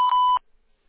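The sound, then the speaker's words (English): A single steady electronic beep from a phone answering system, loud, holding one clear tone for under half a second before cutting off into silence. “To connect and talk, just say your name and what you're calling about after the beep.”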